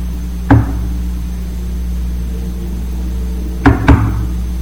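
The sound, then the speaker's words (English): Knocks on a big old wooden wine keg, tapped to check whether it is empty; the keg is full: one solid rap, a pause, then two quick raps close together, each dull and resonant, over a low steady hum with no talking. “Tapped around, tapped all the way to the top.”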